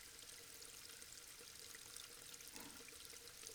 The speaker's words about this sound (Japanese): 水の流れる音、